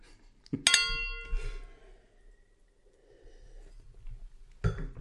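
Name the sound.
wine glasses clinking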